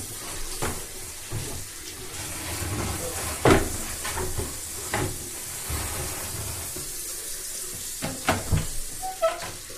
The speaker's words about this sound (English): Alright, you got them all rinsed off, washed up good. Turn the water off.